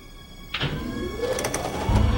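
A mechanical winch overhead whirs into motion as a large crane hoists a truck trailer off a ship, its motor tone climbing steadily in pitch amid a few sharp metallic clicks, before a heavy low rumble swells at the end. No one speaks.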